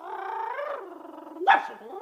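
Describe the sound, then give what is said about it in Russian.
A dog, responding to a spoken command, lets out a drawn-out whining growl, then a single sharp, loud bark, followed by a softer trailing whimper. No one speaks. “Он таким образом львов ищет по специальной команде.”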